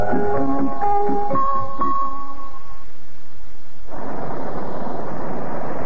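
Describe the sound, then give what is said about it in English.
A thunderstorm over Lake Michigan, about 25 miles from shore: after a few seconds of steady tonal sound, a loud, broad rumbling roar of storm noise surges in and continues to the end, with no one speaking. “This storm scares me.”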